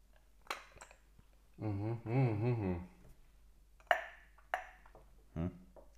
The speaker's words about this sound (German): Ach, stimmt, das ist ziemlich leise. Ich habe gerade versucht, das Wasser aus dem Glas zu schlürfen. Aber ich finde da wirklich. Weil der Eiswürfel ja schon so ein bisschen. Angeschmolzen ist.